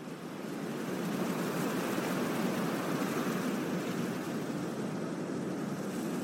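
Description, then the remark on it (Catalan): Steady, continuous surf of sea waves washing in, a broad hissing roar that stays fairly even throughout, with no voices and a soft rise at the very start. “El mar té la seva pròpia música minimalista, un loop etern que convida a la introspecció i, de vegades, al somni.”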